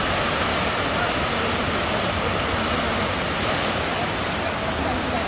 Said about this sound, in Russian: А вот еще волна.